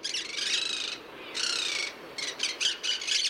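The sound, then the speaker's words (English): Harsh, grating squawks from a monk parakeet (Quaker parrot), loud: two long raspy bursts followed by a quick run of shorter, choppy calls, with no talking. “is also known as the Quaker parrot, and it's a native of southern South America.”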